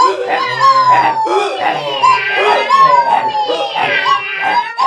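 A loud, chaotic chorus of animal cries overlaps continuously: a donkey braying, a dog barking, a cat meowing and a rooster crowing wail and howl together in wavering, drawn-out tones, without pause.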